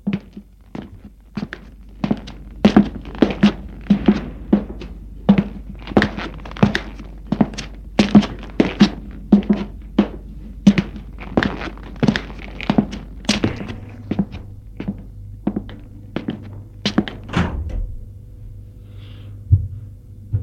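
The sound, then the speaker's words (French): Steady, evenly paced footsteps thud along through a maze of corridors for several seconds, then the walking stops, a low hum sets in, and a few clunks follow as a door leading to a courtyard is opened. No one speaks. “Il a ouvert une porte qui mène à une cour.”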